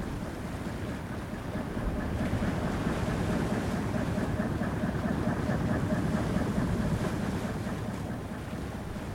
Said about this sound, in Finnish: Aallokko on heikentynyt ja tuuli jotenkin kiertynyt. On vielä aikaista ja se on kai maatuulta.